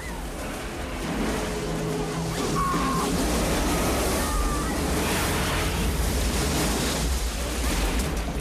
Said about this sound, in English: Onlookers back away as the plane smacks down onto the water. The impact breaks off the left float and the plane bumps through the water.